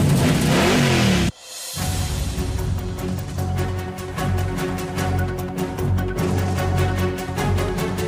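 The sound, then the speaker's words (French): A loud race car engine, in an advert for the Enduro des érables 300 race with over 80 cars at the Autodrome Chaudière in Vallée-Jonction, revs hard for about a second, then cuts out abruptly, followed by a steady, pulsing drone with a regular beat. “Ce samedi, 13h à l'Autodrome Chaudière de Vallée-Jonction, ne manquez pas l'Enduro des érables 300. Adrénaline au programme, plus de 80 voitures en piste.”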